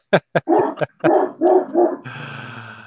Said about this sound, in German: Also, wir sind live und der Hund ist jetzt ein bisschen in Aufruhr. Mal schauen. Der Hund ist gut.